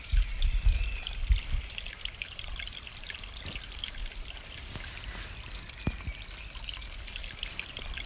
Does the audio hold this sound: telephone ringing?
no